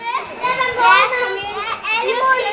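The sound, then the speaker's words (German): Children playing noisily in a library's children's area, a busy overlapping chatter of high young voices with shouts, laughter and clatter rising and falling throughout. “Laut geht es zu, es darf gelacht und gescheppert werden.”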